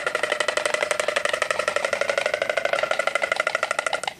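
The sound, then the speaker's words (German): A white stork clattering its bill: a fast, steady, rattling run of dry wooden knocks that continues loudly and evenly for about four seconds, with no voices. “Was ihr da gehört habt, sind Störche. Genauer gesagt, das Klappern ihrer Schnäbel.”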